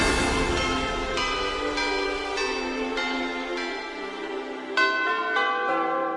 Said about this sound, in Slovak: Bolo 11 hodín. Zvony nad krajinou.